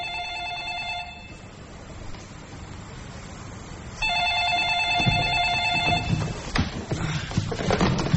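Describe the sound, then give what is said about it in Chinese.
A telephone rings in two long bursts separated by a pause, the bell tone bright and clear over a low background rumble, followed by some clattering and knocking, at a command headquarters aboard a ship around midnight. “随即他毫不犹豫地拿起电话话筒，召集指挥部成员和各部门负责人前来开会。”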